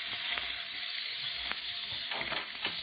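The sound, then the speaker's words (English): A steady, bright hiss and crackle of a lit fuse sizzling, with scattered sharp pops breaking through the continuous sputter, no voices over it. “Fuse is burning fast.”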